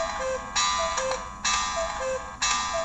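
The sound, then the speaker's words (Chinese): The alarm of a voice-controlled smart speaker chimes in repeating bursts, bright ringing tones pulsing on and off roughly every second with short beeps between, steady, with no voices. It is alarm 2, set by voice for 14:26. “我们现在听到的就是这个闹钟的声音啊。”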